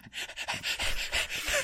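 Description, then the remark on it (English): Heavy panting, a steady run of quick, loud, breathy huffs about three per second, with no talking over it. “You were panting.”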